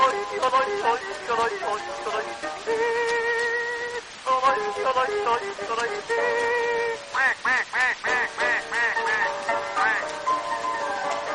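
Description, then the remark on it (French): A voice imitates a duck's quacking in a long, rhythmic run of loud, nasal quacks, ending in a quick burst of short repeated calls. “Coin, coin, coin, coin, coin, coin, coin, coin, coin, coin, coin.”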